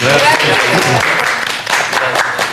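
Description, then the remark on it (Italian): Steady audience applause fills the space, a dense wash of many hands clapping at once, loud and sustained, with a few voices faintly audible underneath. “Applausi.”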